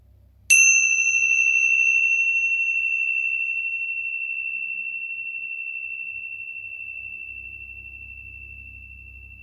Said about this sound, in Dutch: Ik laat zo de bel klinken en probeer eens of dat je daar met je aandacht bij kunt zijn.